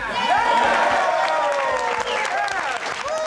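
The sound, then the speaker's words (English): A loud, dense crowd roars and cheers with a steady wash of applause, many voices whooping and shouting together, sustained without a break, at Douglas Bruce's victory speech after the Taxpayer's Bill of Rights became law in Colorado. “Crowd went wild.”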